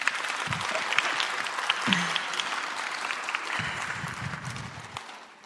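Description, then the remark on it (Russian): Sustained audience applause at a church gathering, in honour of a family of 15, a dense steady crackle of many hands clapping for several seconds, with a few low thumps and murmurs underneath. “Можно поаплодировать.”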